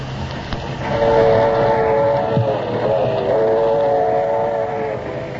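A passenger train rolls steadily along the rails with a constant rumble, a sustained horn-like tone drawn out over most of the stretch. No voices.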